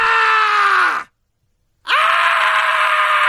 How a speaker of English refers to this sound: It's the, of course, the screaming dude from the Scary Sounds CD.